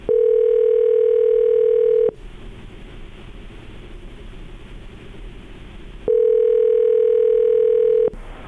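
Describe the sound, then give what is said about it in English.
Ringback tone from an outgoing phone call placed by the Breakfast Club show on K99.1 FM radio: two steady two-second electronic rings separated by a long pause of faint line hiss, loud as if heard through the handset. “Everybody, the phone's actually, we got it ringing.”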